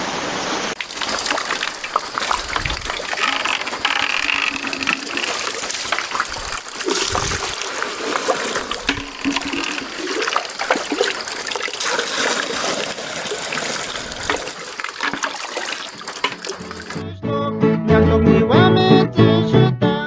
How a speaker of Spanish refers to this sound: Mi abuelita me ha enseñado a echar agua en una cubeta de donde estén los pollitos, para que tengamos así más agua y así.